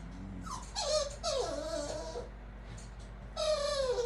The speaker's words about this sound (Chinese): 我们家狗狗好像饿了，你知不知道，他们都是吃什么长大的？